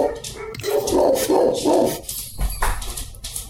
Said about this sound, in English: dogs have opinions on this. Who let the dogs out? Oh, don't be. It's okay.